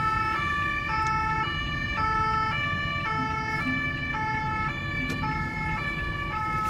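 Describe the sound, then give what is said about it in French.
Police sirens blare in a steady two-tone alternation, loud, over a continuous rumble of road traffic and engines, with no one speaking. The police vehicles are taking over four traffic lanes to form a mobile roadblock during road closure operations at Porte des Lilas. “Et derrière nous, on a les véhicules de police qui vont venir prendre les quatre voies de circulation et réaliser un bouchon mobile.”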